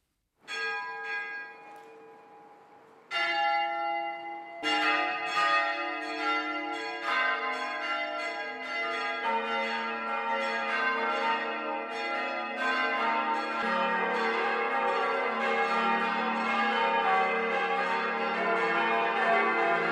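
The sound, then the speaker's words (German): Large bells of the Catholic parish church St. Andreas in Karlstadt am Main, Lower Franconia, ring the noon peal one after another, their strikes layering into a dense, sustained peal with rich lingering overtones, loud, with no voices. “Das Mittagsläuten kommt heute von der katholischen Pfarrkirche St. Andreas im unterfränkischen Karlstadt am Main.”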